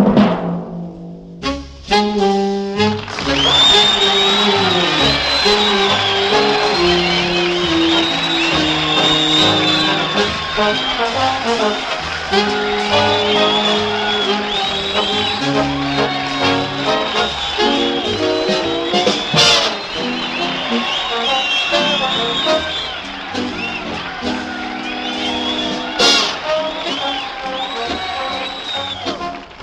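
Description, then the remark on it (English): A large crowd in the National Guard Armory cheers and roars loudly and steadily for half a minute, a dense wash of voices with brief sharp peaks and some tonal sounds mixed in. “National Guard Armory, a whole crowd of your friends and neighbors are having the time of their lives listening to our singing star of the month,”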